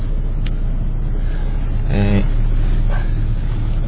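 A steady, low rumbling hum fills the inside of a car parked in a convenience store parking lot, like an idling engine heard from the cabin, with a brief voice-like murmur partway through.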